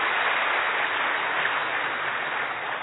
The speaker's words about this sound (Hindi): आप सभी यहाँ जो सभा में बैठे हैं बहुत ही भाग्यशाली आत्माएं, तालियां बजाओ अपने लिए जरा प्लीज।